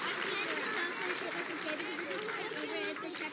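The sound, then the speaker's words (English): An audience claps steadily for about three seconds for the children heading back to their parents with goodie bags, a dense, bright wash of hand claps with cheering and excited voices mixed in throughout. “Okay, can you guys give these guys a big round of applause?”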